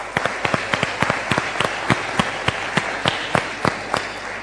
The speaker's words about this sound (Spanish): por favor, un aplauso para recibirlo.